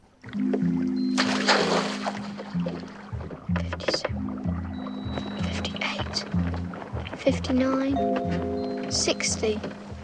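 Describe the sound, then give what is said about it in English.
Oars knock and creak as they are rested inside a rowing boat out on a lake in the dark, with water sloshing, followed by a splash and rattle as an anchor is dropped from the stern, all over a steady low hum. “Titty rests the oars inside the boat and stands up. She drops anchor from the stern.”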